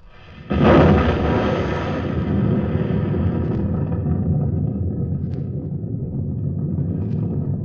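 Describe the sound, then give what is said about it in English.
An explosion bursts in suddenly at the end of a countdown, then settles into a deep, sustained rolling rumble that carries on for several seconds without fading much. No voices are heard. “You'll hear the sound of the explosion any second now.”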